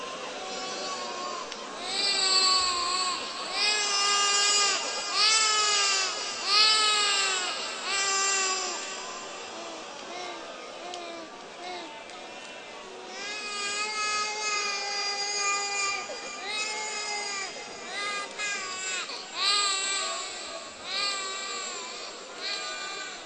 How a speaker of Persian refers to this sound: بذار اصلا چند دقیقه همجوری گریه کنم.